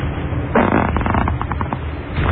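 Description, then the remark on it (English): A new fart sound effect plays, a single drawn-out, rumbling blast about two seconds long, loud with a sputtering, fluttery texture. “All right, let me hear it again. The new fart.”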